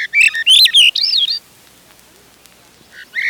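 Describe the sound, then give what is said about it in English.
A Swainson's thrush, one of the thrushes that sing in the Boundary Waters area, sings a clear, fluty phrase of quick whistled notes that spiral upward, then falls silent before another phrase begins at the end. Loud, no voices. “Swainson's thrush sounds a little like a veery in reverse.”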